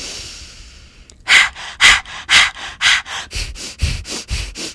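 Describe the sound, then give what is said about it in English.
Fire breath, an energizing breathing exercise: after a quiet moment, loud rhythmic panting bursts come about twice a second, then the mouth closes and they shift into quicker, sharper nostril breaths. No talking. “So at first we pant like a little doggy, and then we close our mouth, and then the nostril breath starts right after that.”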